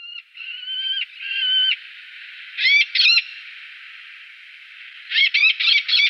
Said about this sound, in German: Gut, anhand der Stimme könnte ich ihn jetzt, glaube ich, nicht artspezifisch benennen. Das können, glaube ich, die wenigsten. Das war auch kein heimischer Falke, sondern der Eleonorenfalke.